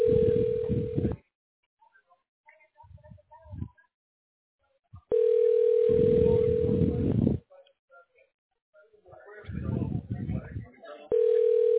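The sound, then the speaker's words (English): A steady, loud telephone dial tone drones on after a hang-up, cutting in and out three times, with quiet muffled noises in the gaps between. “And there's two hang-ups already, my boy.”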